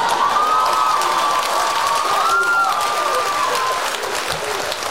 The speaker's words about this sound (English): Clap with me, y'all.